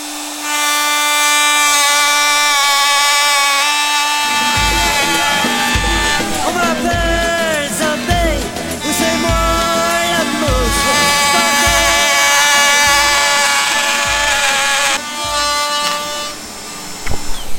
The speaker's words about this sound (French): Ok, donc tu vois, là, je vais mettre en marche la machine, ça fait bip, bip, bip, bip, je vais retirer du bois. Et là, je travaille à contresens parce que je suis contre le sens du fil.